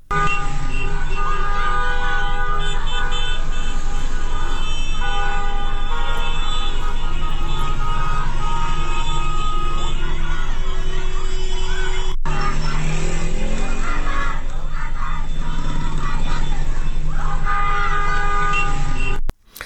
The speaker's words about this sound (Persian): و حتی برخی دانش آموزان دبستان ها که در درون مدارس و یا در بیرون مدارس تظاهرات کردن، شعار دادن که میتونیم یکی شو که مال امروز صبح هست بشنویم که میگن به رانندگانی که از جاده خیابون رد میشن میگن که بوق نزن، فریاد بزن.